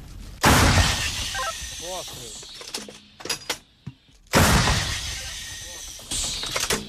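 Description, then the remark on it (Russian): Two heavy artillery cannon shots from Ukrainian artillerymen firing a gun from a tree-line position at enemy targets, using coordinates sent from a command centre. Each shot is a sudden loud blast trailing into a long rumbling roar, a few seconds apart, with brief voices and scattered clatter in the lull between them. “После первых выстрелов с командного центра поступает информация с более точными координатами противника, и украинские артиллеристы продолжают работу.”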